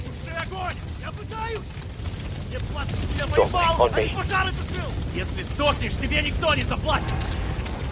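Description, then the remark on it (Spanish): Dense battle noise from the war video game Call of Duty: a steady low roar of explosions and scattered gunfire bursts, with shouting voices mixed in throughout, loud and continuous. “El Call of Duty es un juego de tiros y de guerra por excelencia, el más vendido.”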